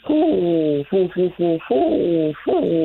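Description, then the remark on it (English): A person mimics a great horned owl, giving a loud series of about six throaty hoots: a long one, several short clipped ones, then two drawn-out hoots. “That was an owl call. I can't remember if it's a male or a female.”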